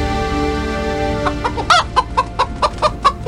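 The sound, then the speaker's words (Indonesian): A brooding hen clucks angrily after the straw nest holding her eggs is pulled into the house ahead of a thunderstorm, in a quick run of sharp, loud, evenly spaced calls over a steady background hum, with no talking. “Anak-anakku, ayam betina berkokok marah.”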